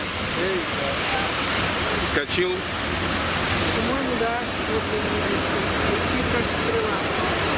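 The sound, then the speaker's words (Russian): A steady, loud roar of surf, like waves breaking, fills the whole clip while a couple of people filming the waves exchange a few words over it. “Мы снимаем волну красивую.”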